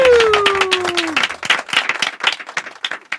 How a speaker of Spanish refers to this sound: Un fuerte aplauso para Rodrigo Cortés.